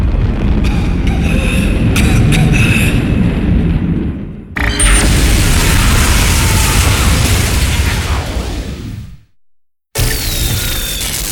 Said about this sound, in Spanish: El polaco deja caer monitor. Y una bomba de humo invade todo.